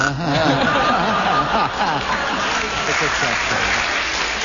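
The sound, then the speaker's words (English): An audience applauds a player's mistake during a game, clapping steadily and fairly loudly, the clapping blending with scattered chuckles and murmured voices throughout. “You always enjoy it so much when you make mistakes, they clap every one of them.”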